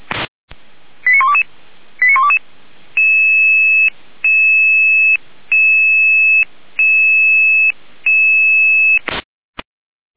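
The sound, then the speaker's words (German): Fire brigade radio alerting tones calling the Mellingen fire brigade to a traffic accident with a trapped person on the A4 near Weimar toward Dresden: a few quick chirping tone pairs, then five long steady two-tone beeps separated by bursts of static, loud and alone, ending in a crackle. “Jener Alarm.”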